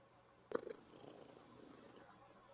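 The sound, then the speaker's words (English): A cat named Ninja purrs softly and steadily, a continuous low rumble that follows a brief bump or rustle near the start. No one speaks. “Yeah, you're such a nice cat, aren't you, Ninja?”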